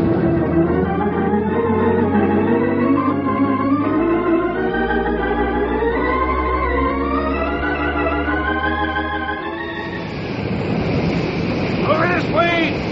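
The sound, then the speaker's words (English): Swelling music with rising tones builds for several seconds, then gives way to a loud, steady rushing spray as an oil gusher bursts upward from the ground. “It's oil! A gusher! It must have been broken through by itself.”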